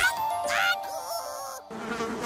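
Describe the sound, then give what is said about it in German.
Lots of flies and other insects buzz around a person's head, a steady droning hum that wavers in pitch as they move, with no talking over it. “Hier jede Menge Fliegen und sonstige Insekten, die mir um den Kopf surren.”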